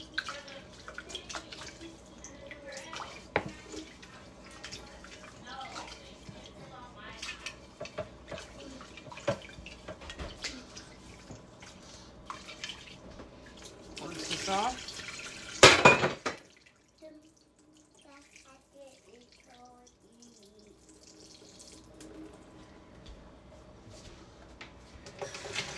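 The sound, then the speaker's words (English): Water runs from a tap, refilling a container with just enough water to bring rice to a boil, in a steady, fairly loud rush, swells briefly, then shuts off, leaving a few faint drips and trickles in near quiet. “I'm gonna fill this back up. Just enough water and throw a little salt, burn it to a boil”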